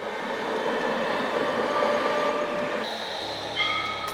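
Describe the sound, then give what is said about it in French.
A tram-train rumbles steadily along its tracks on a school commute between Nord-sur-Erdre and Nantes, France, with a dense, continuous roar and faint high-pitched tones, shifting to a different hum near the end. No one speaks. “Je viens au collège en tram-train car j'habite à 1 heure de Nantes.”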